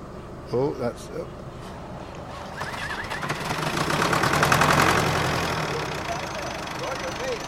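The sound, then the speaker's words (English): A tractor's diesel engine cranks and catches, its rumble rising to a steady chugging idle that fills the background, with brief bursts of voices early on. “got the tractor actually started.”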